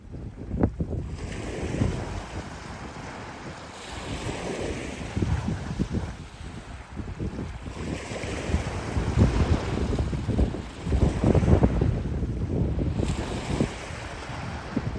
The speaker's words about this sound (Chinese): 我们刚刚听到金门的海浪声和风声我蛮喜欢海浪声的，听起来很浪漫。但是呢，我们实际上看到你所收录的这一段声音，在金门的沙滩上设置了满满的鬼条寨。